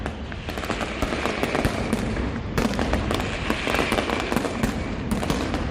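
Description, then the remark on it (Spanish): A mascletà: a dense, relentless barrage of firecrackers (petardos and truenos) cracking in rapid succession, a continuous loud rattle of blasts with sharper bursts standing out, building intensity. “Hemos escuchado el principio con esos petardos, ahora escuchamos como, bueno, esos truenos, esos petardos.”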